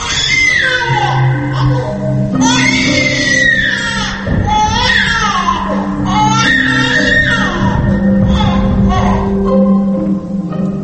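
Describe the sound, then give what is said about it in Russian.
A baby wails loudly and continuously in repeated rising and falling cries during a stage play, with a steady low hum running underneath throughout. “Самый громкий звук в спектакле – плач младенца.”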